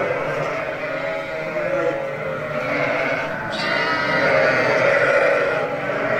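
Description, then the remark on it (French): A crowd of sheep bleat continuously in a sheepfold, overlapping calls of many animals forming a dense, steady chorus, with no speech. “Ouais, c'est des agneaux, là, de ce côté?”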